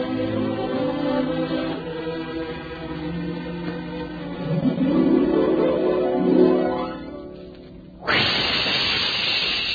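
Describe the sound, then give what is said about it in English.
A steady, loud hissing jet of moisture bursts in abruptly and holds, like escaping steam, following a stretch of tonal music that fades just before it. The hiss stands for the moisture of the new Moisturized Rolly 903 cigarette in an advertisement. “Listen. That jet of fresh, pure moisture stands for the new, different Moisturized Rolly 903.”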